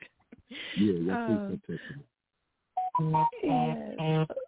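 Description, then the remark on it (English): Phone text-message alert tones from incoming texts sound in two bursts of bright, rapidly shifting electronic notes, separated by a short silence, fairly loud and heard alone. “It's making noises in my phone.”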